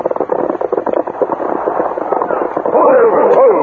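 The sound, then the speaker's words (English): A burst of rapid, overlapping gunshots from a gunfight crackles through a muffled, lo-fi recording, followed by a voice calling out over the noise near the end. “As the Lone Ranger and Tonto, accompanied by Hawk Corey, rode toward Deep Canyon, they heard gunshots.”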